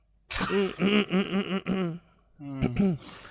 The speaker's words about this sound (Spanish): Otra vez te agarro el ataque de tos. Perdón.